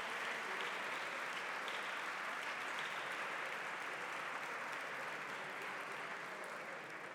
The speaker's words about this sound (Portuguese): E estes aplausos são também para o grupo de cidadãos de Olhão e para o grupo de cidadãos da Trofa, que também estão presentes.